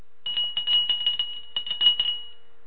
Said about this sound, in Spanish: Voy a tomar un par de minutos más, pero primero voy a hacer sonar mi campana.